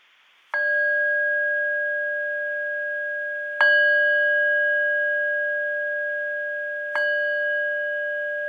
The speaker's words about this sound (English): And I'll ring the bell as a way of beginning this time of practice together.